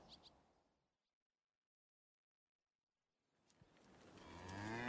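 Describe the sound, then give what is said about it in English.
A cow lets out a long, low moo that swells steadily louder toward the end, following a few seconds of near silence and a couple of faint clicks at the start. “Can't be too careful with cows around, after all.”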